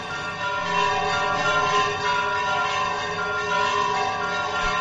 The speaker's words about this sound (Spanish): Las campanas de la iglesia de San Miguel en Villanueva de Córdoba repicando, porque lo ha mandado la alcaldesa, ¿no? No, por celebrar que Agropopular está hoy aquí en Villanueva de Córdoba.